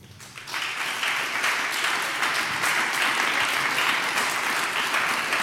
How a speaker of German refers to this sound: Für die einen Applaus bitte.